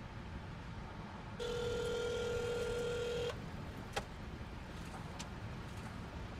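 A steady electronic phone tone, like a call ringing through, sounds for about two seconds over the low rumble of a car interior, followed by a couple of faint clicks.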